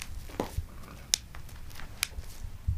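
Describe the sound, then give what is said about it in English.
Reindeer ankle tendons clicking as the animals walk: a few sharp, dry clicks spaced irregularly over soft shuffling and low background rumble, with no voices. “There is a tendon in their ankles that click, and it actually makes a clicking noise in their ankles when they walk.”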